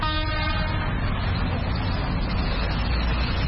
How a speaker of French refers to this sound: Ça se passe bien par rapport à la journée d'hier. Là, il y a les motos qui sont en train de venir et il y a aussi les activités qui ont repris par rapport à la journée d'hier.